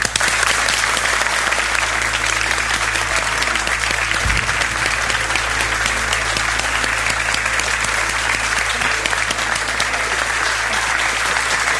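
A crowd breaks into sustained, steady applause, dense clapping filling the whole stretch at a consistent loud level without letting up, with no talking over it.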